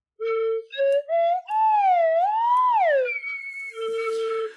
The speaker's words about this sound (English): Bravo. I really need to upgrade my slide whistle. True virtuoso there.